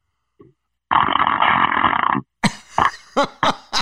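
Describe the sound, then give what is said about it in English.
A single loud, sustained hand fart buzzes and sputters for over a second, then several short, sharp vocal bursts, like laughter or exclamations, follow. “Crank a big hand fart.”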